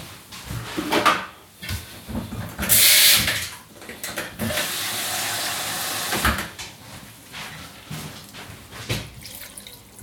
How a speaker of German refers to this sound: Machst du ein bisschen Wasser dazu.